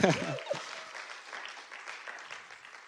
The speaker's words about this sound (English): Someone give him a clap. Come on.